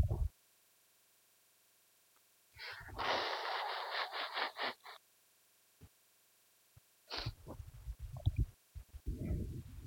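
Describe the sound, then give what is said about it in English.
Someone pausing a church Bible message blows their nose in two noisy, sputtering bursts, the first about two seconds long with a fluttering rhythm, the second rougher and snuffly, separated by quiet. “But I have to pause and blow my nose.”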